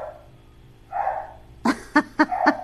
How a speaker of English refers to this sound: It's the dog next door. That's why you can't hear me.